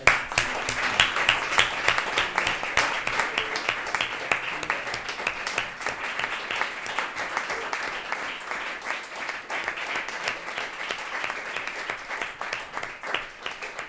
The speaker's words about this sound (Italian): e a tutti gli altri ragazzi di Lampioni che hanno deciso di togliere tempo allo studio per essere qui oggi, di fare un bel applauso.